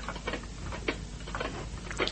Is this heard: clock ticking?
yes